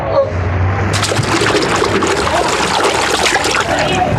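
A heavy bale of cotton, lifted and thrown into the sea, crashes in with a loud splash about a second in, followed by steady churning, sloshing water that stays loud.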